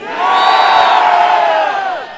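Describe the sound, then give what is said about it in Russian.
A large rally crowd roars a single drawn-out shout in unison, loud, swelling quickly and holding for about two seconds before tapering off, answering the question of whether they want Vladimir Putin to become president again. “Господин Путин, завтра вам это будет кричать вся Россия.”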